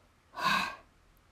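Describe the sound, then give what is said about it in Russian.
A single audible breath out, soft and airy, rising and fading over about half a second, with no talking around it; an exhale after an inhale through the nose and a held breath, during a guided breathing exercise. “И с выдохом в ноги.”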